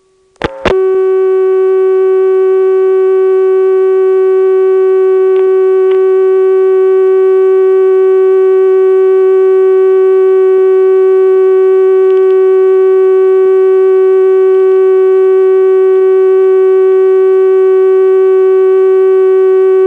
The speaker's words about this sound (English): Now, some NX2 basics. First, the dial tone. You'll notice it's an unusual one for North America. Let's just let it time out.